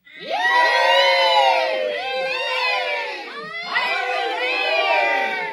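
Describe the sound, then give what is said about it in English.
A large crowd cheers and chants together, many voices overlapping in a loud, sustained roar that dips briefly twice and then surges back up. “More cheers and chanting broke out.”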